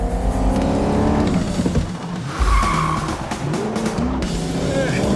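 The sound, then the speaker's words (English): An Aston Martin sports car's tires squeal in a long skid through a sharp hairpin bend, its tail swinging out, the engine roaring loudly underneath, with some voices audible over the commotion. “The tail of the Aston Martin swings out behind them as they make the turn.”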